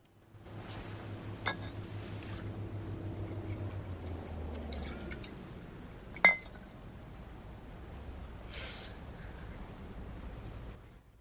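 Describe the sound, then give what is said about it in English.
A half-drunk glass bottle of cheap vodka clinks sharply twice, a few seconds apart, as a man swigs from it on a bench on the embankment near Tower Bridge, over a steady low background rumble with faint rustling; no one speaks. “He puffs on a cigarette and swigs from a half-drunk bottle of cheap vodka.”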